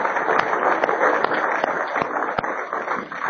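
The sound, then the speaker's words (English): A crowd applauds the musicians who played and sang, many hands clapping in a dense, crackling wash that holds at an even, fairly loud level for about three seconds, with no one speaking over it. “I think we ought to give them a clap.”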